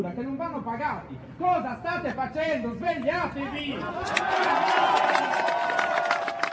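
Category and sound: crowd, protesting crowd shouting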